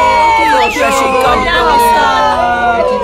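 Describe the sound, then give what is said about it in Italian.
A crowd of Fiorentina football fans shouts and clamors outdoors in front of a family residence, demanding the purchase of a star player; many voices yell over one another in a loud, continuous din with occasional rising whoops. “I tifosi reclamano con forza l'acquisto di un giocatore capace di fare il miracolo, ovvero riportare la Fiorentina a vincere lo scudetto dopo 70 anni di dominio incontrastato bianconero.”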